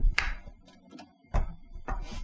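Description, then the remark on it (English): An object gets knocked over on a desk, making three sharp clattering thumps spread over about two seconds, with a few softer taps and rustles in between. “Sorry, I just knocked something over here.”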